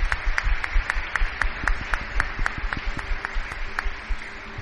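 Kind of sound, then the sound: crowd, audience applauding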